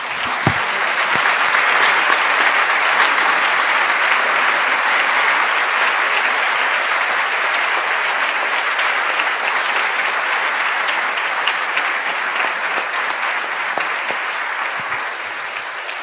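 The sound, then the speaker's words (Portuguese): An audience applauds God steadily for about sixteen seconds, a dense, loud wash of many hands clapping with no voices standing out, the level holding nearly constant and easing slightly toward the end. “Então vamos aplaudir o Deus que faz isso.”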